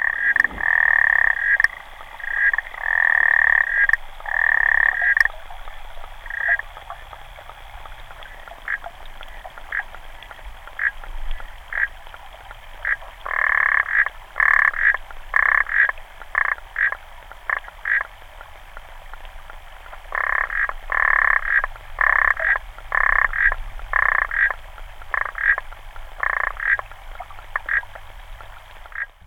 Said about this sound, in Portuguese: Este é o som de uma rã, chamada Rã das Unhas Africana, que, tal como o seu nome indica, vem da África, sobretudo da parte da África do Sul até ao Malawi, ocupando, portanto, a parte do continente africano um pouco abaixo do deserto do Saara.